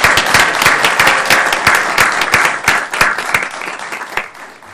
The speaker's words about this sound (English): Thank you for your great work. You deserve a round of applause.